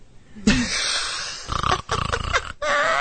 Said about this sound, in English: that was just so rude. Snoring.